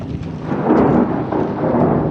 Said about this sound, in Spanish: La lluvia cubre con su manto gris y transparente el puerto.